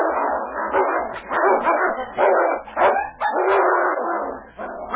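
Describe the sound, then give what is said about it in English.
A dog named King and a timber wolf fighting in a forest beneath a tree, with loud, continuous snarling and growling broken by sharp yelps and barks, sustained without pause. “The timber wolf turned and bared his fangs. King launched himself at his throat with a roar of defiance.”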